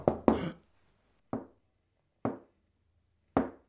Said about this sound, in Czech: Co? Je, co to? Jakoby někdo ťukal z druhé strany dveří.